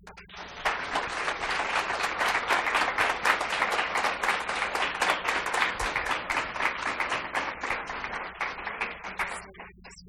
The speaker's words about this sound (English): So I want to just give another round of applause for both of these speakers, because you guys are both incredible speakers and really carried that off quite well.